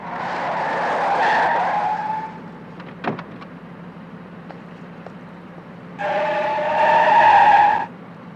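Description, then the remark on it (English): A car skids with a loud, drawn-out tire screech, a sharp knock follows, then a second long squeal of tires as it slides to a stop over a low engine rumble. “Now stop the car and get out.”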